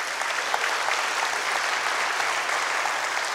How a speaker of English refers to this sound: The anniversary is in October. And I'll let you clap again then if you want to.